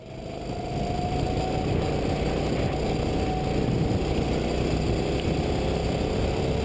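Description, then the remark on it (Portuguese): A racing car engine runs steadily throughout, a loud, continuous low roar with a faint tone slowly rising in pitch, with no voices. “Pois é, você imaginava que um carro com um som desse...”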